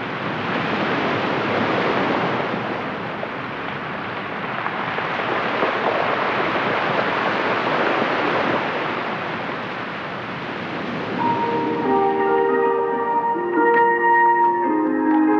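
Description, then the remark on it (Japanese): Pacific Ocean waves crash and surge between a strange rock split in two at the tip of a cape, in a loud, continuous roar, swelling and receding, with a gentle melody fading in over the surf near the end. “神様が割った岬、その言い伝え通り岬の先端には真っ二つに割れた奇岩があり、その間から太平洋の波が打ち寄せていました。”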